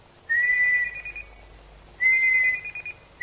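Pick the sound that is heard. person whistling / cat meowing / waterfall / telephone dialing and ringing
person whistling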